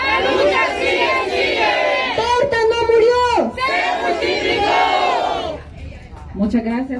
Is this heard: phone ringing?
no